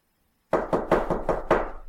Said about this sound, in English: I think there could be someone at the door. If there is somebody at the door, don't knock. Very good. If there is nobody at the door, knock 5 times at regular intervals.